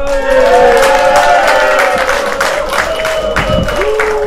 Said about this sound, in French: Vous allez pouvoir l'applaudir bien fort pour la remise des prix européens.